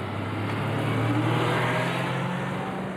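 A bus engine rumbles close by as it pulls away through traffic, a steady, loud low drone with a slight rising strain of acceleration and no voices.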